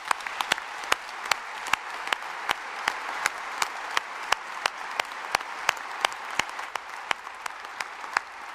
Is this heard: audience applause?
yes